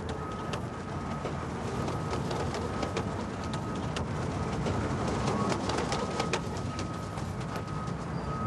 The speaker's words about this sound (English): I guess I'll be flying birds for the rest of my life. Flying pigeons on the rooftops.